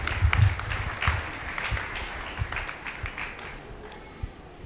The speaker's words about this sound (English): Thank you so much. Yeah, give the Lord a, give him a clap offering.